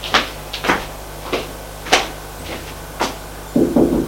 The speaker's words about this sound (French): Va frapper à la porte de la chambre de sa maîtresse.